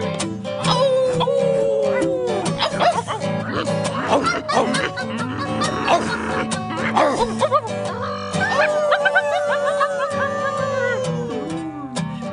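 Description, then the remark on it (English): Several people bark, yip and howl together in imitation of dogs, with rising and falling howls layered over choppy barks and bursts of laughter, loud throughout. “We're gonna try our dog voices. All you people out there in Radioland, feel free to bark along with us.”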